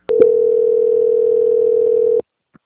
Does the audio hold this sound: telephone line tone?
yes